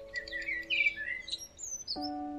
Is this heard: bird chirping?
yes